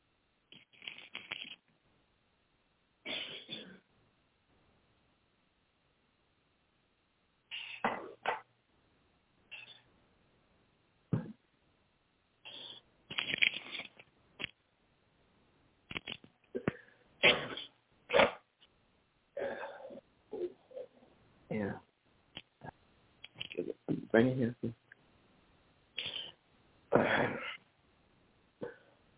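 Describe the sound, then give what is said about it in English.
A person who has been under the weather coughs repeatedly in a long fit, with harsh, irregular bursts separated by short pauses and throat-clearing, fairly loud, with no speech. “Excuse me, I'm trying to finish out this day, and I haven't coughed all couple of days. Hold on.”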